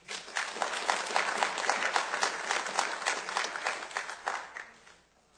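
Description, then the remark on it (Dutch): An audience at a meeting applauds the outgoing chair, many hands clapping in a dense, fairly loud patter that holds for several seconds before quickly fading out. “Graag een applaus.”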